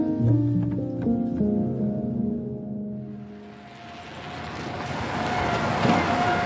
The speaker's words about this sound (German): Am nächsten Morgen will ich herausfinden, warum es in den Straßen und Wegen Zermatts so klingt. Hier sind nur E-Autos und Fahrräder unterwegs und das bereits seit den 1930er Jahren.